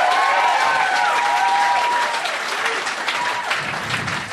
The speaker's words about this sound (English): Feel that little breeze from that applause. Isn't that nice? It's real nice.